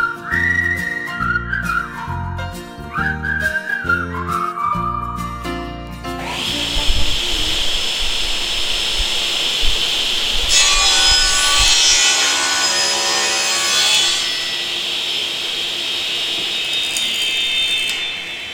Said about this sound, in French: Voilà, donc là, je vais mettre en marche un aspirateur et puis la scie circulaire.